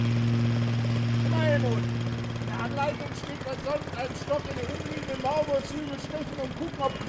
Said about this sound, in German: Der Rasenmäher springt an. Onkel Schulte gibt Gas.